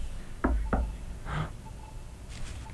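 Two sharp knocks land in quick succession, followed by a softer rustling thud and faint background hiss; no one speaks.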